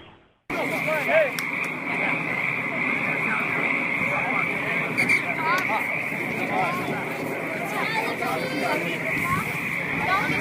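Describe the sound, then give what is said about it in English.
A 19 and under rugby game at Magnuson Park, Seattle, the Seattle Vikings versus the Liberty Rugby Club: players' shouts and calls come and go over a constant, shrill trilling chorus of frogs in the background that holds steady the whole time. “That's the sound of a 19 and under rugby game being played at Magnuson Park, the Seattle Vikings versus the Liberty Rugby Club, with a chorus of frogs in the background.”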